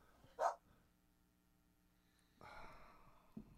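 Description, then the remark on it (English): A dog named Bear lets out one brief, unhappy little whine, fairly loud, then falls quiet as a soft rustling noise rises later. “That no, little unhappy no. dog.”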